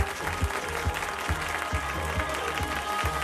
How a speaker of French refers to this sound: Applaudissez Nolwenn, s'il vous plaît.